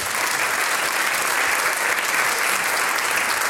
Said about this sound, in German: Das ist jetzt noch einmal ein Applaus wert, gell?